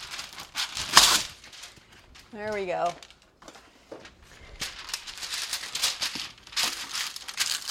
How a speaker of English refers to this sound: You need to get a baking sheet. A rimmed baking sheet is going to be easiest so things don't fall off the edge. And line it with parchment paper. So I'm going to do that right now. It's going to be loud. Hold on.